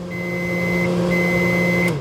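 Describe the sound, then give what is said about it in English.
An oven timer gives two long, steady high-pitched beeps separated by a short gap, signalling that cookies are ready, sounding over a constant low electrical hum from a running kitchen appliance. No voices. “Suddenly, the oven timer peeped in the kitchen.”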